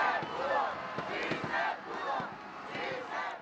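A large crowd in Mexico chants and shouts "Sí, se pudo" in unison for a team, rising and falling in rhythmic waves of voices, loud, with scattered yells breaking through.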